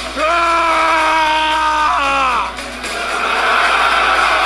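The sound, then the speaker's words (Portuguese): A crowd of men shouts together in a long, loud, sustained unison cry that rises and falls, followed by a broad roar of voices continuing strong. “O grito da sua alma, o grito da sua masculinidade que tá aqui, e eles vão retribuir com o grito deles.”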